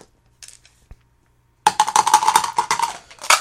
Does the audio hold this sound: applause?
no